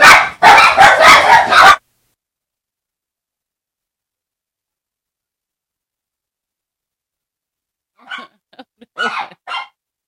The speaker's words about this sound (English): You done got the dogs all upset.